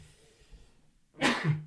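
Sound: sneeze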